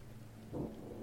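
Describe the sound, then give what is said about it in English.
A thunderstorm, with a low roll of thunder swelling up halfway through over a steady hiss of rain. Quiet overall, with no one speaking. “So I'm just going to say, well, if we stay here, we're going to get into a fight, or we can try to brave the storm and escape.”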